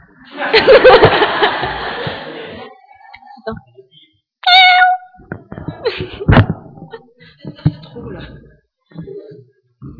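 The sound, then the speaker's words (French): A person imitates a cat's meow with a drawn-out, whiny vocal cry, followed by a shorter meow, while laughter and chuckling from others break out around it, lively. “avant de commencer, est-ce que tu peux faire le cri du chat, s'il te plaît?”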